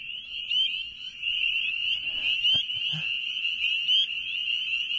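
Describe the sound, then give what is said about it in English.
A dense chorus of small tree frogs, each about the size of a fingernail with suction cups on their toes for climbing plants, trilling continuously in high-pitched, rapid pulses, steady and fairly loud, with a few faint knocks and rustles underneath. “about the size of your fingernail, little frog that has suction cups on their toes.”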